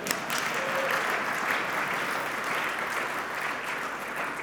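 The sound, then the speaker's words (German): A crowd in the Bernese Oberland, Switzerland, applauds the worship team steadily, a dense wash of many hands clapping at an even, sustained level throughout, with no voices standing out. “Darf man da Ihnen schon klatschen, oder?”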